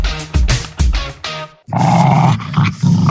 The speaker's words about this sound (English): Well, the dogs are barking, but Jeff Parry's not here.